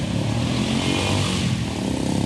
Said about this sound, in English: It's been raining pretty hard at my hotel as I record this today. You might even be able to hear some of the rain and traffic in the background. Let me see if you can hear it. So the rain stopped, but still tons of traffic.